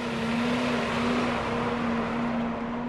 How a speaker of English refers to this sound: A truck rolls by dumping feed into the bunks at the Van Housen feedlot in Nebraska. They mix nearly 200 tons of feed per day.